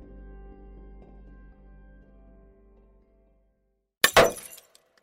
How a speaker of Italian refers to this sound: Seduto al tavolo da pranzo, Davido Tia scaglia a terra la tazza da cui ha appena bevuto il caffè.